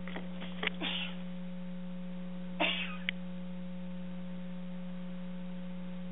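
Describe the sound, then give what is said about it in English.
A couple of abrupt, breathy sneezes from a person turning away from a microphone, a quick cluster near the start and another a couple of seconds later, over a steady low electrical hum, with no talking. “I tried to turn away from the mic.”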